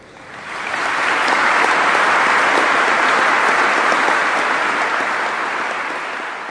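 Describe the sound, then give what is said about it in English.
Sustained applause from a large audience during a speech by Zelensky, rising quickly to a steady, dense roar of clapping that holds for several seconds before tapering slightly at the end. “I get the impression that Zelensky's actually looking for the applause, pausing and waiting, and then the applause is kind of catching up with him.”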